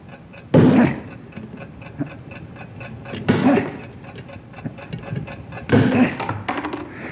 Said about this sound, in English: Now the timing device is in between the chemical chamber and the explosive. You've got to drive that wedge in there and stop that ticking.